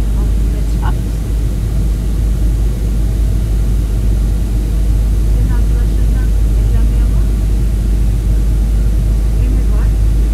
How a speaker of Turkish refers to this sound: Dedim ya, hani alçalıyoruz dedikten sonra inmesi de hemen olan bir şey değil uçakların. Böyle bir bekleme süresi hep yaşanıyor.